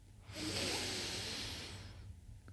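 A long, steady inhalation through the nose during a guided breathing exercise, a soft airy rush lasting nearly two seconds that swells quickly and then fades, with a faint low hum underneath and no talking.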